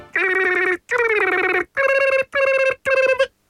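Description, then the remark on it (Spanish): A Thompson alarm, original version, rings in five loud, bell-like bursts, each a steady harmonic tone under a second long with short gaps between, much like an old telephone bell. No one speaks over it. “Esta es la alarma de hiperdemocracia, José.”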